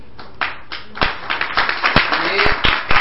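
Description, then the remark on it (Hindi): Sharp hand claps ring out one after another, loosely paced at first and then settling into a steadier beat, while a voice murmurs underneath as a Hare Krishna mantra kirtan begins, started by a spiritual teacher clapping his own hands in a disciple's home. “तो महाराज जी स्वयं ताली बजा के हरे कृष्ण मंत्र कीर्तन शुरू कर रहे हैं।”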